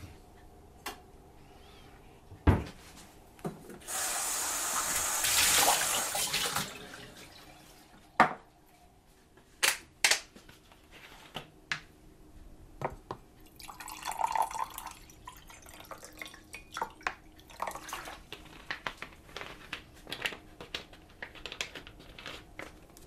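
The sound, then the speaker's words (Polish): Drinking water is poured in a steady rush lasting a few seconds, preceded and followed by scattered clinks, taps and drips of a glass or bottle being handled. No one speaks. “Napijemy się wody.”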